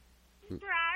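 A single high, thin kitten meow rises and holds for about half a second, fairly loud, just after a brief low burst of sound.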